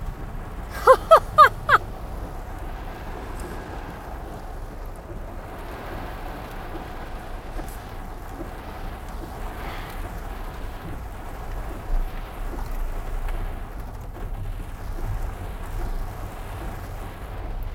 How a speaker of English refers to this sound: Wow. Rain.